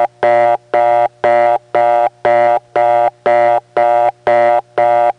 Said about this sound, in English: Just to show you how the equipment type affects the sound of the tones, here's that very same reorder coming from the very same tone plant in the step context.